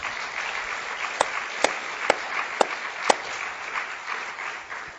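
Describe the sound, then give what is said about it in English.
A crowd at a Bible study gathering applauds steadily for the Lord, a dense wash of clapping, with a handful of sharper, louder claps standing out at a roughly even beat through the middle. “So let's just give the Lord a round of applause.”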